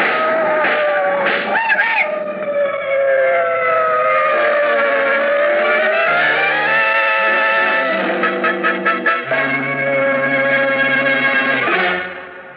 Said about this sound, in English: those cars! What the... They're coming as they jump. Quick, they'll hit you!